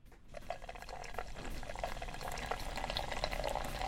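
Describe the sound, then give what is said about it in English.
Stout beer pours steadily into a glass held at 45 degrees, a continuous splashing, fizzing stream that starts almost immediately and keeps going without a break. No voices are heard. “And let's do a little pour. 45 degrees.”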